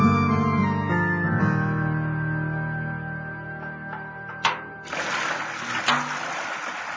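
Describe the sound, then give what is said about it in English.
After a sustained, fading musical chord, hot water rushes and splashes as it is poured into a bath to make a sitz bath, a steady gush lasting a couple of seconds. “Do you suppose that's enough water, James?”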